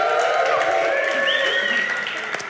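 An audience claps steadily for a couple of seconds for a staff member who brings the drinks from behind the stage, a dense, even patter of many hands mixed with a few cheering, whooping voices, holding at a constant loud level before easing slightly at the end.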